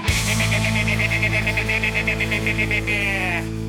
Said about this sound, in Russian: Хе-хе, это коза.